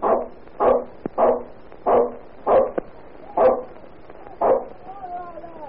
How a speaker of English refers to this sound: Well, it seems that about 3 o'clock in the morning, fire broke out in a tenement house. All the tenants were asleep. But Ginger sniffed the smoke and started to bark.